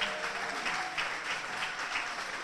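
A crowd at Firefly Hollow Brewing Company in Bristol, Connecticut, applauds a brewery president and CEO steadily, a dense wash of many hands clapping at an even, moderate loudness with no voices standing out.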